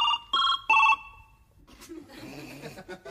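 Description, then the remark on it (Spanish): A telephone ringtone sounds three short, bright electronic tones in quick succession, fairly loud, then gives way to a stretch of muffled, indistinct background noise. “Pasó una semana, suena el teléfono, viste, de Zoilo.”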